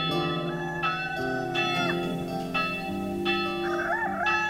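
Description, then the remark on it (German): Church bells ring continuously in layered, overlapping peals as the sun rises behind a mountain, their sustained tones blending into a dense, steady wash of sound with periodic fresh strikes. No voices are present. “Hinter dem Berg geht langsam die Sonne auf, die Kirche läutet und der Hahn kräht.”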